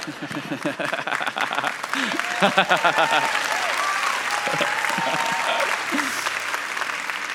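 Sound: audience applause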